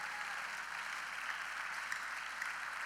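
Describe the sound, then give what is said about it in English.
Steady, dense applause from a crowd, many hands clapping at once in a continuous bright patter with no pauses and no voices. “Sometimes the sign that you are here and you're ready to receive of God and for your expectation not to be cut off is connected to your clapping and getting ready to receive what God has for you.”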